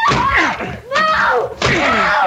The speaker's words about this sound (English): The door! I can't budge it! We will break it down!